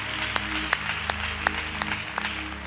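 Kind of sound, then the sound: crowd, audience hand clapping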